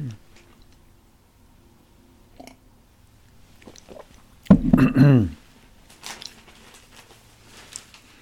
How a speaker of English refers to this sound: Now I will pause just a second and have another sip of coffee.